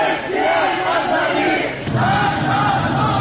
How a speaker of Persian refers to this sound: معترضان در شهرهای رشت، برخی محله‌های تهران، عراق، انزلی و زاهدان شعارهایی از قبیل مرگ بر خامنه‌ای و آزادی آزادی سر می‌دادند.